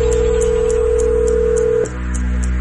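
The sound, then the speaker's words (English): A steady telephone tone hums for nearly two seconds with short, evenly spaced high dialing blips ticking over it before a phone call, then cuts off abruptly into a quieter line. No one speaks. “I think it's best explained with a phone call.”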